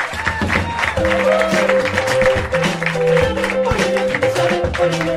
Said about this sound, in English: I want more. I want more applause for our fans. Thank you guys.